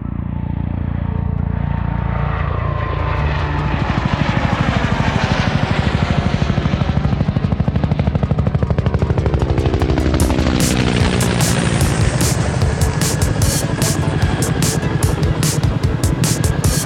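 A helicopter hovers, its engine whining and pitch shifting as the rotor blades chop in a rapid, steady pulse, loud and continuous throughout.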